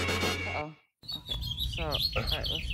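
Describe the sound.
A bird-chirp alarm tone, the speaker's son's alarm, plays loudly, with bright tweeting calls and rapid warbles repeating after a brief pause, while a person talks underneath.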